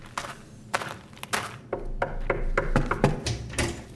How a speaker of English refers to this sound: For pity's sake, who's that? Oh, it's you. I keep hearing a knock at the door and then there's no bastard there.